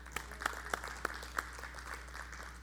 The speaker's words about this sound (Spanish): Gloria a Dios. Un aplauso al Señor.